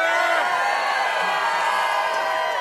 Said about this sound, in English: Somebody. Let me hear you scream.